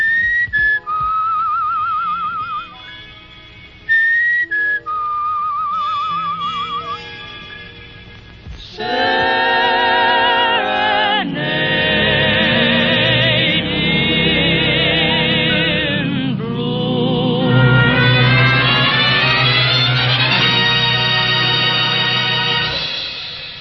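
A 1941 big band swing tune, played on radio station KUOW 94.9, winds to its close: a thin, whistle-like melody line first, then the full horn section swells into loud, sustained closing chords.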